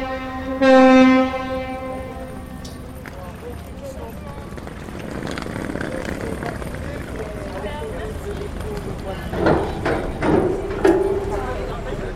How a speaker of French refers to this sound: Ah, on entend le bateau, là. Ici... Les sonneries du bateau donnent l'heure, en fait. C'est un peu comme le clocher d'une église, quoi.